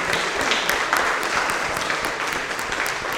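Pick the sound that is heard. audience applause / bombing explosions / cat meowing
audience applause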